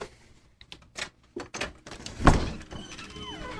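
A control-room door opens as the speaker walks over to step outside: a few sharp clicks and knocks from the latch and handle, a louder thud as it swings, then faint outdoor background noise. No one speaks.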